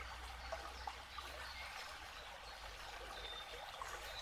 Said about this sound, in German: Und gleichzeitig bringt dieses Fließen, dieses Plätschern des Wassers neue Energie in deinen Körper, in jede Zelle.